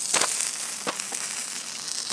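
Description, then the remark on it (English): Food sizzles in a hot pan: a steady, bright hiss runs throughout, broken by a few sharp crackles and pops. No one speaks. “That's me cooking, isn't it?”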